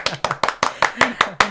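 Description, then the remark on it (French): Eight crisp hand claps applauding a sound engineer of the radio station Fréquence Mistral, in a steady, quick rhythm, each sharp and evenly spaced, with a faint voice murmuring underneath. “On peut l'applaudir, je pense.”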